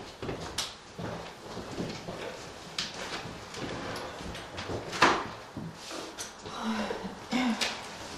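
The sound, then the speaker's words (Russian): A door is handled and shut for the duration of a group practice, with soft creaks and rattles leading to a sharper knock midway, then a few lighter thuds amid quiet room shuffling and faint murmuring. “Можно дверь закрыть на время практики?”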